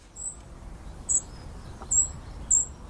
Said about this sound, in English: Look, let's be honest. This must be one of the dullest bird songs of all time. But for me, it's one I love, for it signals the presence of one of my favourite birds, the spotted flycatcher.